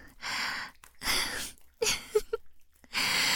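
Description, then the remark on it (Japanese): Heavy, excited breathing: four loud, airy breaths in quick succession, with a few small vocal catches between them and no talking. “子供も息遣いもどんどんどんどん興奮されて気持ちいいですか”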